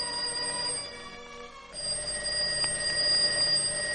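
A telephone rings in the morning during breakfast with a sustained, high metallic bell tone that briefly drops away partway through, then resumes steadily at moderate loudness. No one speaks.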